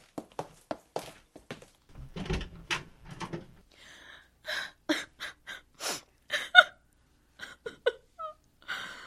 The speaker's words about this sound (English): She's crying. That's quite usual, too.